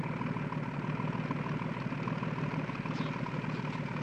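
boat engine idling

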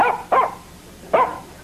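dog barking

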